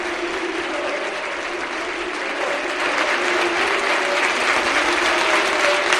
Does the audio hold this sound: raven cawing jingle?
no